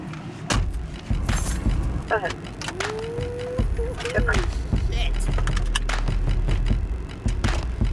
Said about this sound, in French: All right, tu montes dans la voiture.